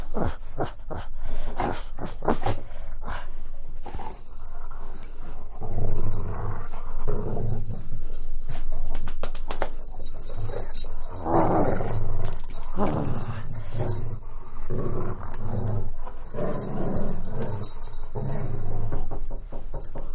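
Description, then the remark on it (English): A dog growls and snarls playfully, rumbling bursts rising and falling almost continuously for about twenty seconds while tugging and worrying at a dog toy. “Oh, you don't eat these dog treats anymore. You look at this. It's a dog toy.”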